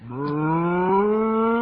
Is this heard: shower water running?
no